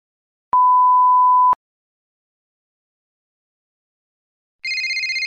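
A single steady electronic beep lasting about a second, then silence, before a telephone starts ringing with a rapid warbling trill near the end, as a call is placed to a travel agency to ask about travel. No one speaks.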